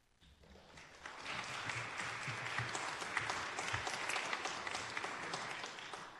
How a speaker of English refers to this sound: I also will ask if people could please, we can applaud for everybody, but if we hold our applause till the end, we'll get through quicker, which is great for everybody.